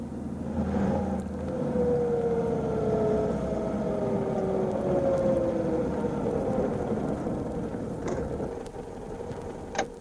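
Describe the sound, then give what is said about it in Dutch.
A car engine winds down as the vehicle slows and rolls to a halt near a garage, its hum dropping steadily in pitch, then a short mechanical click right at the end. “Ja, stop toch maar hier, Ina.”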